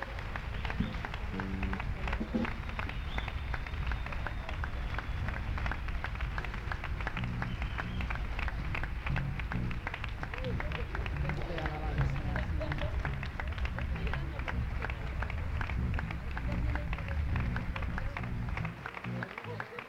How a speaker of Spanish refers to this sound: ¡Fuerte el aplauso! ¡Fuerte el aplauso al Señor! ¡Fuerte! ¡Fuerte, fuerte, fuerte!